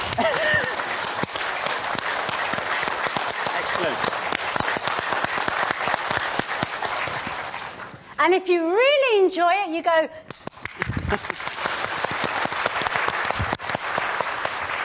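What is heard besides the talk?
audience clapping hands together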